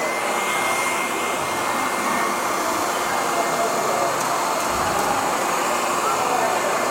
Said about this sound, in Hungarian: Az alját meg elkezdjük fűteni egy hajszárítóval.